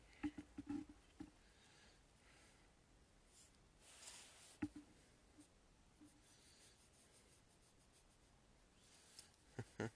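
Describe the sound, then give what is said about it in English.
A pencil scratches across paper in short, quiet strokes, with a few sharper taps and scrapes clustered at the start and end and a softer, steady rubbing stretch in between. “Also, you gotta be very careful on the lines you make.”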